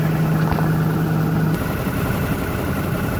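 A car engine idles steadily at high idle while the car warms up, a continuous hum with a low tonal drone that drops away partway through, leaving a rougher, slightly lower running rumble.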